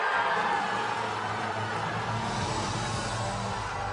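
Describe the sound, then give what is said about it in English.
A large crowd roars and cheers continuously as Qatar is announced in 2010 as the winner to organize the 2022 FIFA World Cup, a dense, loud wash of many voices that holds steady for the whole few seconds without a break. “And that was back in 2010. You hear all the cheers.”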